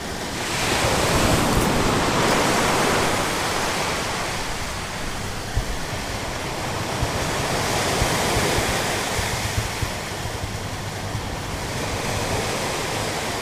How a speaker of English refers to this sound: At the Beit refugee camp in western Gaza City, wastewater is pumped into Gaza Sea. All day long, the brownish-gray liquid flows into the sea, contaminating the water and preventing residents from fishing and swimming in the area.